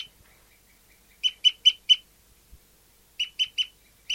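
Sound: bird calling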